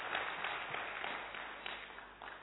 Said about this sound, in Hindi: ऐसे महान लोग और हमें गर्व है भारत पर जहां ऐसे महान लोग हैं, ऐसे महान लोग हैं। खूब जोरदार तालियां बजा सकते हैं उनके लिए।